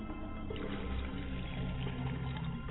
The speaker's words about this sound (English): And we pour this libation to the ground for a quest for the tribe.